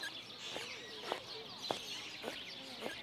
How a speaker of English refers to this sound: Did you just hear what I heard? That woman has squeaky shoes.